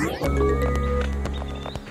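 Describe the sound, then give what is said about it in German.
A horse neighs over a quick, steady clatter of hooves, loud, with a bright whinny rising toward the end of the short burst. “Jetzt kannst du loslaufen, du schnelles Pferd.”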